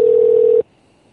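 A loud, steady telephone dial tone holds a single mid-range pitch for about half a second, then cuts off abruptly into near silence. No voices are heard.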